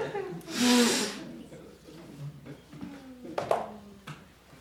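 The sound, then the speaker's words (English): A single strong, noisy nose blow bursts out near the start, followed by a few short snorts and sniffs with faint chatter in the background. “I have to blow my nose here a minute.”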